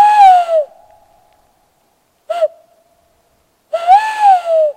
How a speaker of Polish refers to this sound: Wydaje się to niemożliwe, żeby gdzieś tutaj blisko tych bloków, blisko miasta znajdowały się sowy, a jednak mamy nadzieję, że tak będzie. Teraz użyliśmy jeszcze jednego puszczyka i się zastanawiamy, czy to nie trzeci.